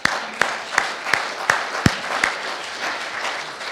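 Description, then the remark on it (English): A church audience applauds 24 people who made decisions for Jesus, starting with about seven sharp claps in a steady, unified rhythm before dissolving into a continuous, moderately loud wash of scattered clapping. “24 people, go ahead and applaud that.”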